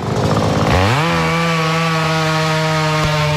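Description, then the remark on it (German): A chainsaw engine roars loudly, its pitch dipping and then climbing to a steady high whine as it bites into wood, running continuously with no voices. Workers are cutting up fallen trees in the street in the Buchlerei neighbourhood of Zürich-Altstetten. “Ein paar Häuser heult eine andere Kettensäge auf von Arbeitern, die grosse Baumstämme oder abgebrochene Äste versagen, zum Abtransport”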